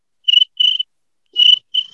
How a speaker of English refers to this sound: Nothing. A lot of cricket sounds.